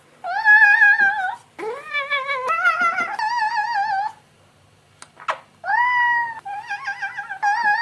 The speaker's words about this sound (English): As if Napoleon Dynamite and Hello Kitty had a child and made it yodel. Cat yodeling.